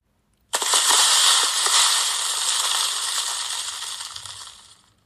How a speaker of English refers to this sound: The giant was bellowing and banging, yelling and thumping. He made so much noise, the rocks on the mountain began to tumble.